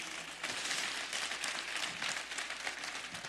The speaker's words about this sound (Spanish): Un aplauso a todos los que se lo supieron de memoria.